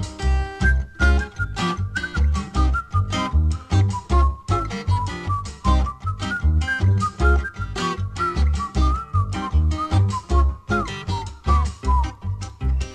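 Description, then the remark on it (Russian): A cheerful whistled melody, like a rubber squeaky toy whistling through a hole in its side, trills along clearly and steadily over bouncy backing music with a regular bass beat. No one speaks. “Ёжик резиновый шел и насвистывал дырочкой в правом боку.”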